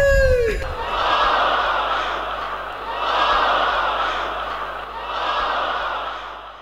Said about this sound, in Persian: همه یک صدا فریاد خواهیم زد لبیک یا رسول الله.